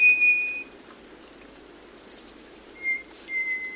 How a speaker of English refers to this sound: In wet mountain forests of Costa Rica, a slate-gray bird sings as it moves furtively in the dense understory. It's the black-faced solitaire.